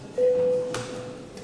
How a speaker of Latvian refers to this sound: Paldies, lūdzu zvanu.